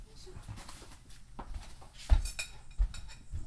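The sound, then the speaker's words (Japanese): Dishes clink and clatter as plates are gathered, put away and set down, with a couple of sharper knocks standing out among softer handling noises. “お姉ちゃんお皿直して。”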